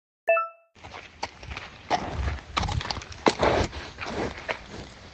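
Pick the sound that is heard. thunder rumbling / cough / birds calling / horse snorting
horse snorting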